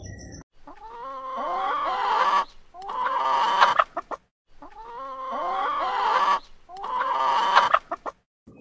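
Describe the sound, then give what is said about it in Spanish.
A hen clucks while her chicks peep busily around her on a countryside farm in the morning, the dense chatter coming in two bursts separated by short pauses, with no voices. “Y si escuchan bien, ahí están los polluelos de la gallina.”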